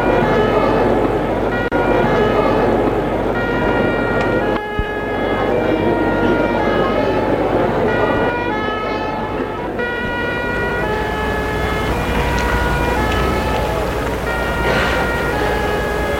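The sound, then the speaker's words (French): Loud fire engine sirens wail continuously outside at the foot of an apartment building with a crowd of firefighters, their overlapping tones rising and falling over a steady rumble of engines and street noise. “Dehors, en bas de l'immeuble, il y a la foule des pompiers.”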